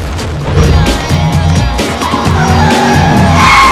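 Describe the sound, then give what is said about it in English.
A large 4x4 roars off at night with a loud engine rev and tires screeching and skidding, a harsh rising squeal over a deep rumble that stays loud throughout. “A large 4x4 speeds after him.”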